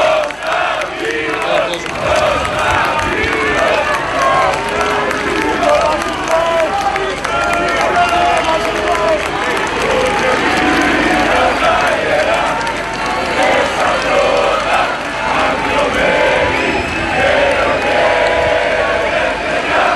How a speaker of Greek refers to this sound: Ακούστηκαν φωνές Κωνσταντίνος Κωνσταντίνος από τους πολίτες και ο εθνικός ύμνος.